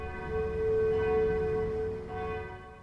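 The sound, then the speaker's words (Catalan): Church bells ring out in a continuous, resonant wash of overlapping metallic tones, held steady and fairly loud for a few seconds with no voices present. “Les campanes no paraven i el canó anava disparant, però només se sentia aquell soroll.”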